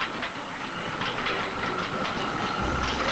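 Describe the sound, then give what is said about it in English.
An old train locomotive rumbles along steadily, a dense, continuous roar of engine and rolling wheels that stays fairly loud throughout, with no voices. “So they fight the Alligatorcon, and they toss it out into the river via an old train locomotive.”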